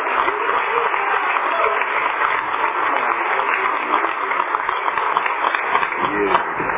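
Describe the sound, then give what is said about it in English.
Steady audience applause for a speaker being introduced, dense and continuous for several seconds, a bright crackle of many hands clapping at an even loudness without pauses. “So give him the biggest applause you have in you.”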